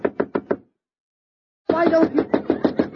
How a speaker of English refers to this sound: Now, I knock on your door.